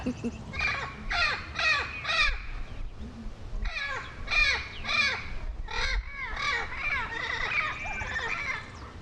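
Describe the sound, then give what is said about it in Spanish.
A rapid series of harsh, screeching bird calls like an owl's, repeated in quick bursts with brief pauses between them, fairly loud, over a faint low background rumble. “Grita como lechuza.”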